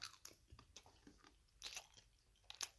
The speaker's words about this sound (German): Ich muss mal kurz richtig laut schmatzen.